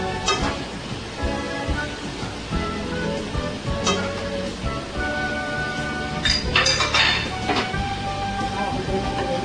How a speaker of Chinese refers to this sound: 那我们就把这个酱油再放一点点下去，但是呢火还是要开哦，稍微拌一下，让这个酱油的这个香味呢出来一下。